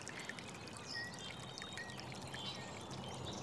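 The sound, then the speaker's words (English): Steady rushing, trickling water fills the scene, a continuous wash of flow beneath a bridge where a nutria swims in circles, with a few faint high bird chirps in the background and no talking. “We've got just the sweet furry head of a nutria doing donuts in the water below our bridge.”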